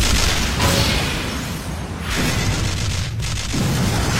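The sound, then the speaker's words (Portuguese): Rapid magic light-blast shots fire in a loud, continuous barrage, with several booming bursts running together and no voices. “Disparo rápido de brilho!”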